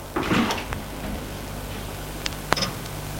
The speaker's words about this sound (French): D'un côté, il y a de grandes fenêtres très hautes qui donnent sur le parc et de l'autre des portes. Elle ouvre la porte du troisième.